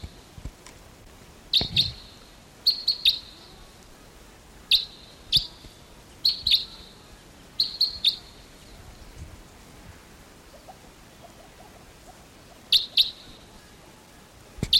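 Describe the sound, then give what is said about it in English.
Calls of a wild Type 2 crossbill flying over in the early morning of August 16th ring out in short, sharp bursts, mostly paired 'kip-kip' notes repeated irregularly about a dozen times, fairly loud over a soft, rain-like hiss with no talking. “early morning of August 16th, and there's a wild type 2 crossbill coming in.”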